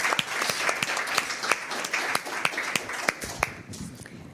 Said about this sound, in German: Also dafür einen Applaus und für die Moderation und für ganz viel Backup.